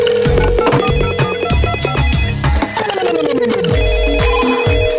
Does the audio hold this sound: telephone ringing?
yes